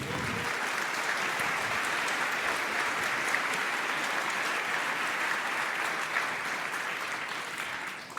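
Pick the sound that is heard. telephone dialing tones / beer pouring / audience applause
audience applause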